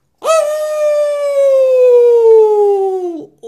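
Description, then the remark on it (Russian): An animal named Buki lets out one long, loud, shrill squeal that holds for about three seconds, sliding slowly downward in pitch before cutting off abruptly, with no talking around it. “И вдруг Буки как завизжит.”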